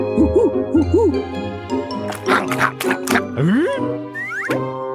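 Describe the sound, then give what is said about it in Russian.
A voice imitates an owl, giving several quick wavering hoots, followed by sliding whooping calls and a few breathy bursts, all fairly loud with no other talking. “А еще он ухал, как сова.”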